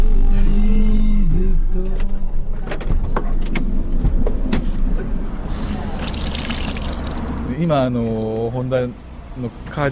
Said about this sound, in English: Right now, we are at the local Honda car dealership, washing the display models.